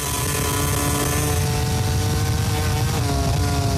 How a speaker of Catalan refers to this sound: Falten dues voltes. Aquest era Marc Márquez. A final de recta, controlant el motor de la seva Honda.